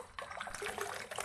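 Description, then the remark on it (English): Water trickles and splashes steadily in a bath, a continuous burbling pour with small irregular surges and no voices. “Bath time. It's awfully busy in that water, isn't it?”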